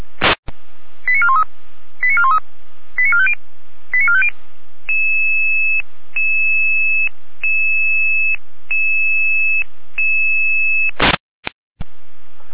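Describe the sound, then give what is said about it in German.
A fire brigade radio alerting tone sequence, a follow-up alarm for a call to help a person in distress in Rudelstadt: a click, four quick chirping bursts of tones, then a long, steady electronic tone that shifts pitch at regular intervals, ending in sharp clicks. No talking. “Folgealarmierung.”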